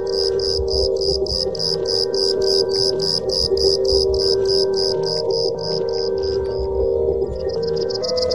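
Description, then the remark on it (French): A small black cricket chirps in a fast, steady rhythm of high-pitched pulses throughout, clear over a low, constant background hum. “Un petit grillon noir.”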